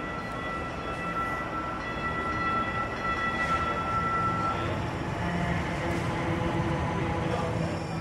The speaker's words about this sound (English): Train approaching. Please stand clear of the platform edge.